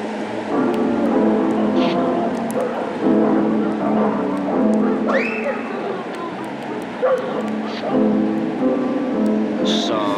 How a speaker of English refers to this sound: shut that fucking dog up. Shut up.